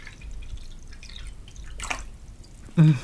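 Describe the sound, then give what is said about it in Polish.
Tea trickles and drips into a cup over a low background rumble, with a brief splashy gush near the middle and a short, louder sound right at the end. “Najpierw napijemy się herbaty.”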